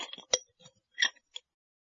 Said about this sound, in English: Let's make tea. First, put some tea in a cup.